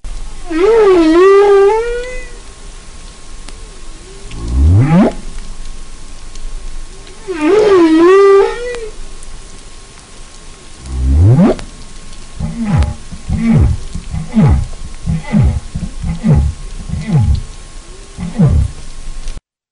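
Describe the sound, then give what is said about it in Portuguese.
Whale song recorded underwater in the ocean by a hydrophone: loud, wavering harmonic moans repeat in matching phrases, broken by deep upward-sweeping groans, then a rapid run of pulsed calls. No voices are heard. “A melodia produzida por eles ecoa por várias regiões do oceano e podem ser perfeitamente ouvidas pelo hidrofone, um microfone que capta sons debaixo da água.”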